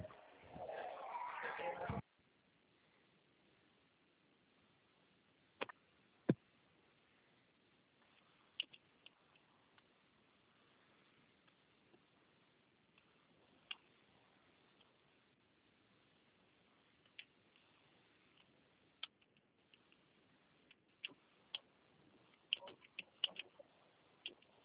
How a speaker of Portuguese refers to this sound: Menino digitando aqui, como é que pode aparecendo aí? Aí parece que a teclinha do a tecla do próprio celular.